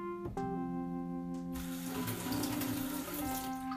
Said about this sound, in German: Ich habe jetzt in den kleinen Topf Wasser gelassen. Den stelle ich jetzt nochmal auf dem Herd und stelle meine kleine Schüssel rein.